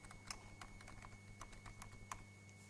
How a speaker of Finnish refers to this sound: Ja pelin nimi Hirsipuu, ja tämä oli taas tämä murheellinen näppäimistö. Oli täällä. Otetaan taas toinen näppis.